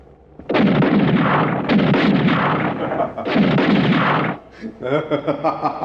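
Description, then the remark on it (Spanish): Three loud, sustained bursts of heavy gunfire roar one after another with brief gaps between them as guards shoot at a figure crossing through dense rain in flashes of lightning, and then a voice starts talking as the firing stops. “Con el resplandor de los relámpagos, pueden verlo cruzar como un fantasma y disparan.”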